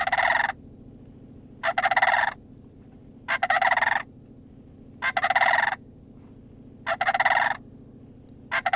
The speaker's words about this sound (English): And so they roost, you know, thousands of cranes and lots of geese and ducks and all kinds of fun stuff. Let's take a listen to a sandhill crane.